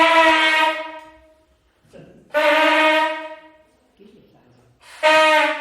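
A night watchman blows a signal horn as a practice alarm: three loud blasts, each a steady brassy tone that fades out, separated by short pauses filled with faint background noise.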